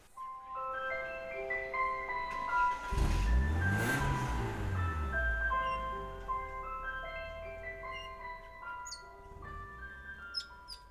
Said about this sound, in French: Ou la musique du marchand de glace.